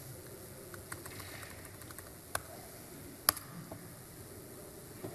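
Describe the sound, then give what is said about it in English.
Sparse, irregular clicks of typing on a computer keyboard to start software updates, a handful of soft keystrokes with two sharper taps standing out, against a quiet, faintly hissing room with no one speaking. “Wrong keyboard.”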